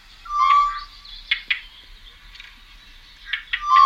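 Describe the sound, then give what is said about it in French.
Two pairs of birds give harsh, agitated alarm calls at once, their scolding bursts overlapping and repeating irregularly, mixed with brief high whistled notes that dip and rise, with no voices present. “En fait, il y a un deuxième couple qui est là et qui alarme en même temps, qui crie, qui n'est pas content.”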